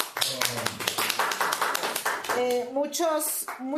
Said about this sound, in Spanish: Un aplauso, por favor.